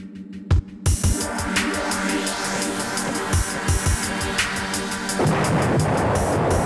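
A mortar shell explodes by a stable with a heavy boom, followed by sharp percussive hits and a rolling rumble that swells toward the end over a sustained droning backdrop, with no voices.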